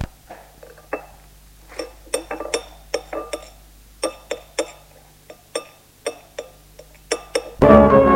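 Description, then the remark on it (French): Cutlery clinks and scrapes against plates in an irregular series of sharp, bright taps as two people eat beefsteaks without talking, ending in a brief louder clatter. “Il met les deux beefsteaks dans les assiettes et ils mangent tous deux sans se parler.”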